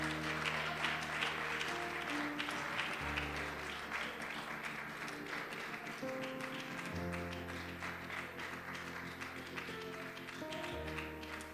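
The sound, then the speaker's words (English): A crowd applauds steadily for about twelve seconds, given in praise of God. A dense wash of many hands clapping at once, with sustained keyboard chords playing underneath and no voices. “I think he deserves an applause.”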